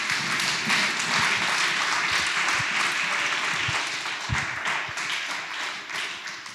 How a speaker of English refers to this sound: Let's clap hands for Jesus. And thank you, Jesus.